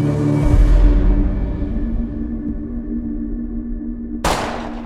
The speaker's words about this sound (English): you just shot as the gunshot still echoes and rings out. Executed.